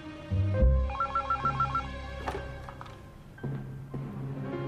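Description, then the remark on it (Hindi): A telephone ringtone trills in a quick repeating pattern over a low background hum as a call is placed to Doctor Tarami, followed by a few clicks and a steady electronic tone near the end. No one speaks. “Doctor तारामी को phone मिलाओ, अभी सब मालूम हो जाएगा।”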